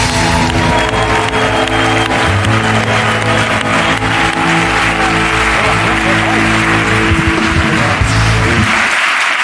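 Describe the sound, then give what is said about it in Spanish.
A crowd applauds Antonio Lobato on the show La Resistencia, loud steady dense clapping filling the whole stretch with a low musical hum underneath, then cutting off abruptly near the end. “Un aplauso para Antonio Lobato en la Resistencia.”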